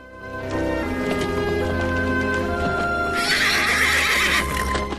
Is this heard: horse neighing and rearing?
yes